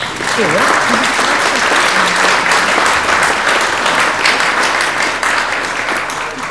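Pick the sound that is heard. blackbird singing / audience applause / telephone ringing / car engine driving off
audience applause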